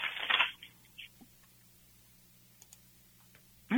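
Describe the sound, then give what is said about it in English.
Tarot cards being shuffled: a short papery riffle, a few soft taps and clicks through a quiet stretch, then another burst of shuffling at the end. No one speaks. “Okay, I'm shuffling the cards and focusing on you.”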